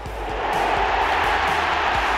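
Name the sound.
football stadium crowd roaring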